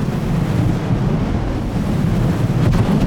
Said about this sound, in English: Gobs of molten lava pours from the charred and war-worn nozzle of Waverly's flamethrower and into the bunker's gunnery ports, immediately delivering scalding judgment to its German occupant.